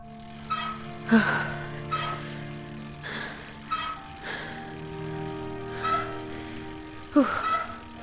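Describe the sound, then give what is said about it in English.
A bicycle squeaks rhythmically as it is pedaled, a high creak repeating roughly once a second alongside faint rattling, fairly quiet, with no one talking. “Maybe someday I'll feel that way about pedaling up to a gas station on that monstrosity.”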